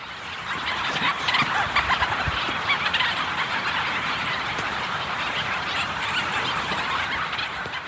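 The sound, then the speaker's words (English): A dense, continuous chorus of petrels calling from a colony at night, many overlapping harsh, warbling cries merging into a steady loud wash of sound, with no talking. “it was effectively invisible until the nighttime when you suddenly start hearing them all and you get that blast of petrel sound. Let's listen to some of the petrels right now.”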